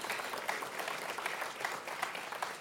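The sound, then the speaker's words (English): An audience claps steadily for the judges of a startup competition, a dense wash of many hands applauding together at moderate volume, with no one speaking over it. “So a round of applause for our judges before they get started.”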